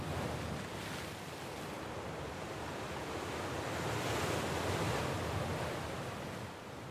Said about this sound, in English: but the sound of the sea, you know, on a rough day there, like, it's amazing, like.